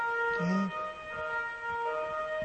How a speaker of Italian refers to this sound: C'è una sirena.